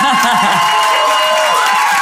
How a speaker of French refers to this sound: Merci d'applaudir très très fort